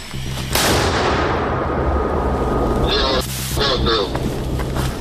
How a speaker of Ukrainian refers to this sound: І от це чергова робота мінометного розрахунку. А, власне, інтенсивність бою ви можете бачити на кадрах.